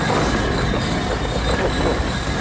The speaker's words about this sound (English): Loud tube train.